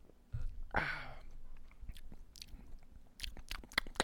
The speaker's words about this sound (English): I haven't tried this yet. I'm going to take a sip of this Hefeweizen. I'll explain it as he does it. He's just drinking it.